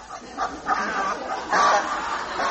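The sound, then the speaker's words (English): Two geese honk and gabble in a run of overlapping calls, with a louder, more insistent honk about halfway through. No one speaks. “All I have left in the world, apart from my dear son Jack, of course, are those two geese over there.”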